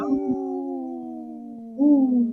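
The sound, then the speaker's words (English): A wolf howls in one long, wavering note that slowly slides downward, then swells louder again near the end. It sounds clear, with no talking. “In this portion of the show, we like to bring awareness to our Minnesota wolf population.”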